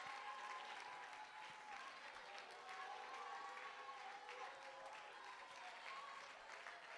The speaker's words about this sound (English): Come on, if you got faith, get on your feet. If you've got faith, you ought to clap.